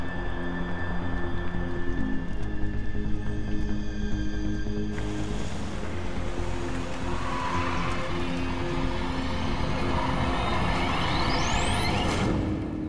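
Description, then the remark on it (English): A bus idles at a neighborhood bus stop in Texas on a May afternoon with a steady low drone, then a broad hiss like air brakes releasing, followed by rumbling traffic and a rising whine near the end. “Leah is dropped at her neighborhood bus stop and begins her walk home”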